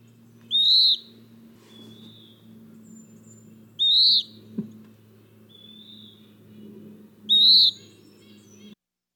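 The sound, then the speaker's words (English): A western wood pewee, a flycatcher, calls three times, each a clear, burry, slurred whistle spaced a few seconds apart, ringing out over a low steady hum of background noise. “A western wood peewee is a flycatcher, and it eats our mosquitoes and other things that drive us crazy.”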